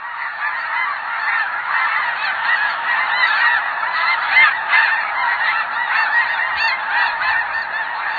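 A dense flock of snow geese honks continuously at Klamath Refuge, between mountain ranges in northeastern California and southern Oregon, countless overlapping calls forming a loud, steady chorus that fills the whole recording without pause.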